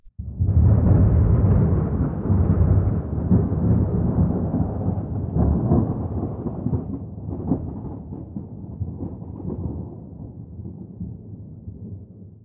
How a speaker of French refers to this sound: C'était la nuit. J'entendais du bruit. Je croyais que c'était des fantômes. Mais non, c'était de l'orage.